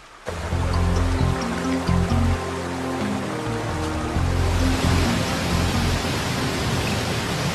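River water rushes steadily and loudly for the whole stretch, a dense continuous wash of flow with a deep rumbling undertone beneath it and no voices.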